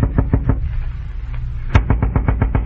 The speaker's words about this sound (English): I knocked on the door.